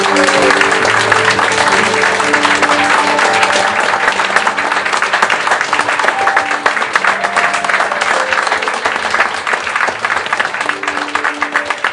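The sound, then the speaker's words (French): An audience applauds steadily for the whole stretch, a dense, continuous wash of many hands clapping at a fairly loud level, with faint musical tones and murmurs underneath, thanking the presenters at a Bar des Sciences evening. “Est-ce que, s'il vous plaît, par vos applaudissements, vous pourriez leur transmettre toute la passion qu'ils ont essayé de vous transmettre ce soir et leur dire merci?”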